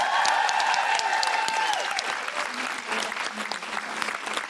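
A crowd applauds steadily, the dense clapping loud at first and slowly thinning over several seconds, with a faint whistle or cheer riding on top early on.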